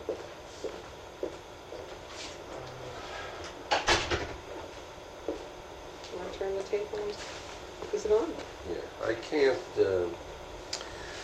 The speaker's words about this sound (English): Yeah. Okay, let's let me close the door and we'll get started.